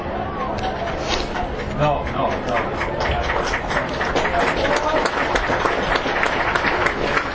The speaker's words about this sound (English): The applause you're hearing are for Mike Plaza, who was able to go off the field under his own power, although it does not look like he is going to return.